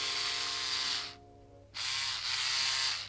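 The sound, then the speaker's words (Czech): A malfunctioning electric shaver buzzes loudly, cuts out for about half a second, then sputters back to a steady whir, as if struggling. No one speaks. “Zlobí mě holicí strojek.”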